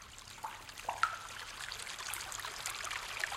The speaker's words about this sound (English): And a stream trickling through the cave.